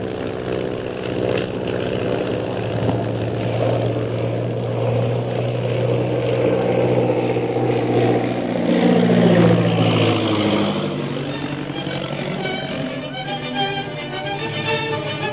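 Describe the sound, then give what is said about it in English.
A steady propeller airplane engine drones loudly and continuously, its pitch swelling and rising partway through as the plane climbs above another plane, then holding at a higher, strained whine. No voices. “I'm going to climb above the Purple Triangle plane without the pilot seeing us.”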